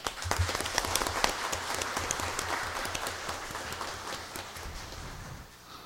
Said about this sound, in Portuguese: Quero aqui pedir mais uma salva de palmas à doutora Targansky